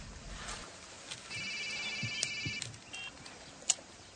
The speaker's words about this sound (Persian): صدای زنگ موبایل طاووسه. طاووس گوشیشو برمیداره، نگاه میکنه و جواب میده.